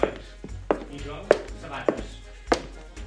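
A series of crisp, hard-soled footstep impacts, about five or six evenly paced steps on a hard surface, close and fairly loud, each a sharp knock with a short ring.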